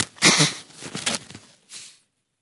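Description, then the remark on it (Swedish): Someone blows their nose in a few short, breathy honks, the first strongest, then two softer bursts trailing off into silence, with the audio level turned down. It's fairly quiet, with no talking. “Kan du dra ner ljudet så ska jag snyta mig.”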